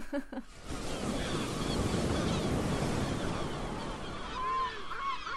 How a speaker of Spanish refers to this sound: Playa y unos cientos o miles de gaviotas patiamarillas en la isla de Cabrera pegando gritos ahí detrás.